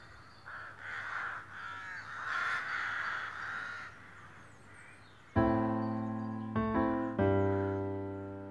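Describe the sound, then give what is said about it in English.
Crows caw repeatedly, first as a cluster of rough, overlapping calls, then a few much louder, drawn-out caws near the end. No one speaks. “So, and the crows just sound a bit fitting at this point.”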